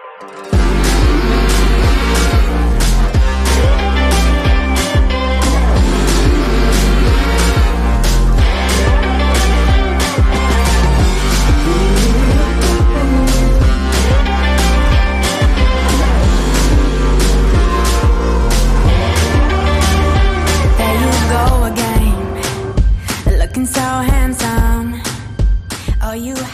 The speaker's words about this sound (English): Let's stop it right there while she's singing about me looking so handsome.